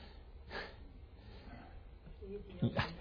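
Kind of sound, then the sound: human body sound, audience member coughing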